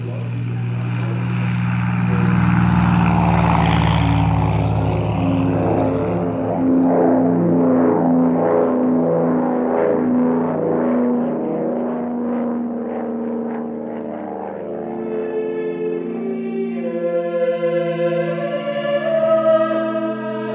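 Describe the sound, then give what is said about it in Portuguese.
A loud, steady airplane engine drones throughout, a deep propeller-like hum with a rough, throbbing texture that stays continuous, while a brighter tonal layer creeps in near the end. The plane carries Dom Helder Câmara to Recife. “Olha lá, ele já entrou no avião.”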